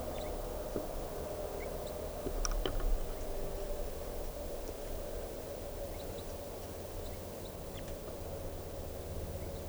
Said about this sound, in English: So recording, I hear chitter of crossbills up in the trees right above me.